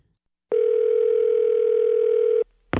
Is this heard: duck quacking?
no